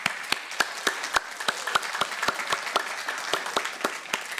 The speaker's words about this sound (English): Yeah, let's just give God a big applause.